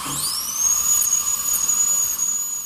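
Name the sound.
dentist's drill whining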